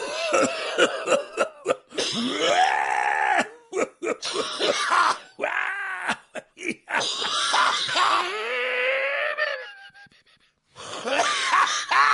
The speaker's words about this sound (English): No, I was coughing.